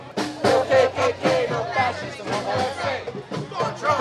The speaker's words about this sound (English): They were outnumbered by a combination of black-clad Antifa members, local peace activists, and others. When the Trump supporters first came into the plaza, there were scuffles, and the crowd chanted loudly.